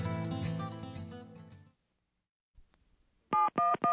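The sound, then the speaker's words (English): Three quick, loud touch-tone beeps as someone dials 711 on a phone keypad to reach Arizona Relay for a call to a deaf person, following a stretch of music that fades into a brief silence and a soft click. “I have her phone number, but I was told to dial 711.”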